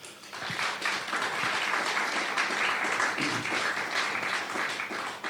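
An audience applauds steadily, a dense wash of many hands clapping at an even level throughout, with no voices over it.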